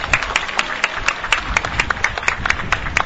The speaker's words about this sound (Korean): 어머님을 비롯한 유가족분들에게 다시 한번 뜨거운 박수 부탁드리겠습니다.